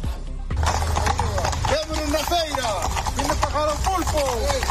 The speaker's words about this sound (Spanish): Los caballos ayer en Francos, en Teo, por el San Martiño.